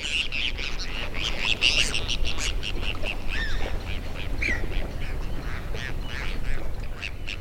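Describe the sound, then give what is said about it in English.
A flock of Bonaparte's gulls calls back and forth constantly while plunging into the water, with short, harsh, overlapping cries over a steady low outdoor rumble, the chatter busy and unbroken throughout. “Well, actually, Bonaparte's gulls. In these recordings, we hear them calling back and forth and plunging into beaver.”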